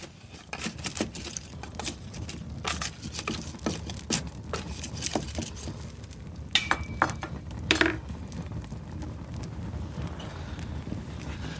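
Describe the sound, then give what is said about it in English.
Firewood crackles and pops in an outdoor fire in the car park at BBC Aberdeen at Beechgrove on a Saturday morning, with sharp irregular snaps scattered over a steady low rumble and a few louder cracks near the middle. “You can hear the firewood sparking away in the, you know, the car park here at BBC Aberdeen at Beechgrove of a Saturday morning.”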